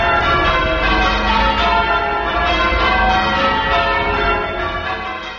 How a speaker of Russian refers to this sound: Это звон колоколов собора Святого Патрика в австралийском Мельбурне